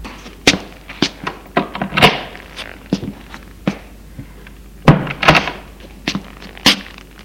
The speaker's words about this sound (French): Le bruit de la porte la fait tressaillir.